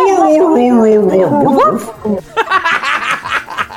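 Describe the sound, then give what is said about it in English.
A person vocally imitates a dog's whimpering howl, a wavering, sliding whine that dips downward over about two seconds, fairly loud, followed by someone talking. “The dog version of Pac-Man Morph. Getting losing a life.”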